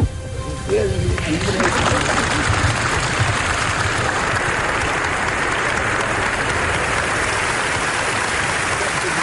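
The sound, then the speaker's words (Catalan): A large audience at the United Nations bursts into sustained, loud applause for Pau Casals as he receives the organisation's first peace medal, dense clapping continuing steadily after a voice fades out at the very start. “Mentre tothom aplaudeix, us heu d'imaginar Pau Casals, que no ha pogut ni acabar el discurs d'emocionat abraçant-se al secretari general de les Nacions Unides, OTAN, que li acaba d'atorgar, per sorpresa, la primera medalla de la pau de l'organisme.”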